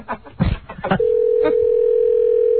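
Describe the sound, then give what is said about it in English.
A few short muffled bursts, like brief voice sounds or handset clicks, give way to a steady telephone dial tone while a number is being called: one unbroken mid-pitched hum that holds at even loudness until the end. “I think that's the number. Let's see what's happening.”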